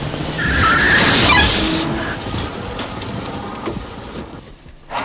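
A BMW car rolls in, its engine and tyre noise swelling, then brakes squeal faintly as it slows and settles to a stop, leaving a quieter idle with a few small clunks.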